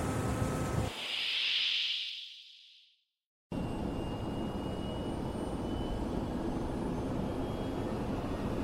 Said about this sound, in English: this plane can't take another burst like the one we just had.